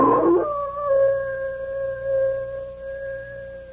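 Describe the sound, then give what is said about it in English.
A single long, sustained howl of a big old wolf holds a steady mournful pitch for several seconds after a brief rough onset, with a faint low hum underneath and no voices. “Bill, listen to that old wolf out there. Sure sounds like a big one.”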